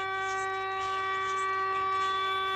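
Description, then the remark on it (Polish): The sirens of ships in the port and of factories in Szczecin blare at once to mark the start of a May Day demonstration, a sustained chord of steady horn-like wails holding without a break, loud and unwavering against a faint rumbling background. “Zgodny ryk z syren statków porcie i szczecińskich fabryk obwieszczają początek dzisiejszej pierwszomajowej manifestacji.”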